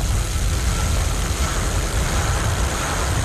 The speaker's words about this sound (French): Est-ce que c'est un peu de circulation qui me parle, là?